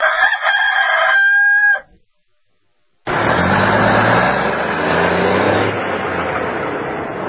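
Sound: rooster crowing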